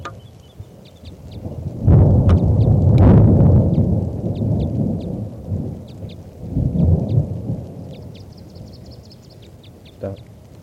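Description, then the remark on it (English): Steady rain patters throughout a storm that has lasted about an hour and a half, while deep thunder rumbles loudly, swelling for a few seconds and then again more softly, with faint bird chirps high above the storm noise. “So recording is starting to rain now, and this is still that female.”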